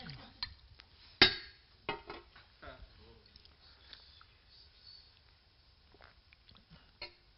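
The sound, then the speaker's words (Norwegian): Someone drinks some water: a sharp clink of a glass, then a series of soft sips, gulps and mouth sounds spread irregularly over quiet background, with a final small knock. “Jeg må ta litt vann her til det.”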